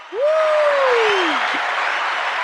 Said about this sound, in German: Hast du den Applaus gehört, oder? Ich wollte gerade sagen, ist da was los bei euch? Ah ja. Geil. Also du hörst, wenn wir so Einspieler machen bei dir? Ich habe jetzt gerade irgendwie 50.000 Menschen beim Klatschen zugehört, ja.